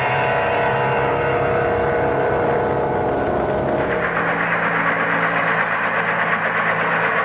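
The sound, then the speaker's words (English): A craft's helicopter system engine starting up before re-entry, a dense rumbling drone that shifts partway through into a steadier, brighter mechanical whir with a low humming tone underneath. No voices. “Well, before we head in for actual re-entry, we activate the helicopter system.”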